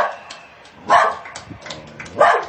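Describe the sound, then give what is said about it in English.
A dog in Israel barks twice, about a second apart, sharp and fairly loud against a steady murmur of background noise, joining in as people honor healthcare workers. “In Israel, healthcare workers were honored, and even a dog joined in.”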